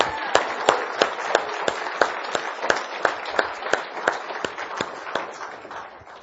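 A round of applause from a church audience for a group of young children, dense steady clapping with a few sharper claps landing in a regular rhythm, sustained for about six seconds and easing off slightly at the end.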